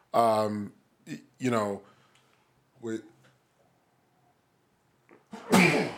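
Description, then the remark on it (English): A person builds up to a sneeze with a few strained, voiced gasps, pauses in near silence, then lets out one loud, explosive sneeze at the end. “Sneeze will not be counted against you.”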